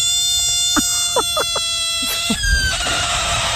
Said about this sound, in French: Non, c'était la grenouille. Ah là là. Ah bah ouais, mais t'entends ce cri, elle veut faire fuir tout le monde là.